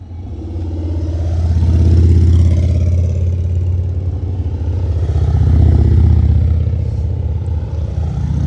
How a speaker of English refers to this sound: I was about to talk about the peacefulness and the serenity of the climb so far. We just get a few motorbikes going past.